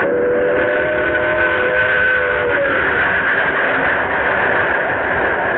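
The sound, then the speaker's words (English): The 11:55 train rumbles in right on time, its steady roar broken by a long, sustained whistle with harmonic tones that fades after a few seconds while the loud rumble continues. “Here's the 11:55 now. Right on time.”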